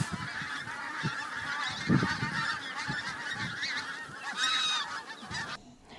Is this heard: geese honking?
yes